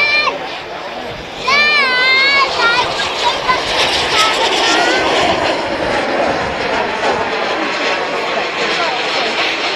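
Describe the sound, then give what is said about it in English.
Miniature Red Arrows display jets fly past trailing smoke: a loud, steady jet roar swells in after a quieter opening, with high whining engine tones wavering up and down and a faint murmur of people underneath. “So this is the sound of the miniature red arrows.”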